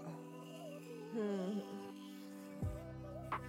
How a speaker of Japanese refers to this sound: スイッチオン。この電動歯ブラシを考えた人、天才だよね。